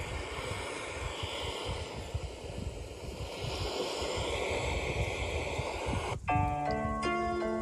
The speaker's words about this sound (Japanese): ここでね海の音ちょっと入れてるんですよね。